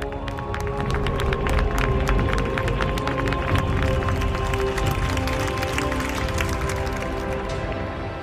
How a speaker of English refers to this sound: When the Pope leads the Angelus prayer from the balcony above St. Peter's Square, the faithful applaud him affectionately.